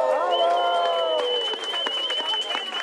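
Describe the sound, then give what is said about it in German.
A crowd of over 300 people at a demonstration in front of the Lower Saxony state parliament in Hanover on 8 January applauds steadily and fairly loudly, with dense clapping, sustained whistles and cheering voices over it, carrying on for a few seconds without pause. “Ich finde, das ist ein Ernstes, ein Applaus wert.”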